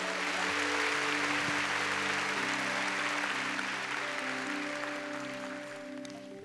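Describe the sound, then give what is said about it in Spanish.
A church audience claps for the Lord in dense, steady applause while sustained organ-like chords hold underneath, the clapping gradually thinning and softening toward the end. “Dele palmas al Señor.”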